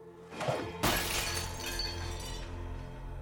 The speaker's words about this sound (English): Then suddenly, the glass is flung across the room.